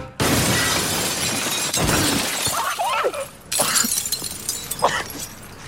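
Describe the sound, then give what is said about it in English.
A loud crash of shattering glass as a man falls through it from a couple of stories high, bursting out and continuing, followed by a second wave of breaking and scattered shards tinkling and clattering as debris settles. “There's one scene where he falls through glass, like from a couple stories high, and you feel it.”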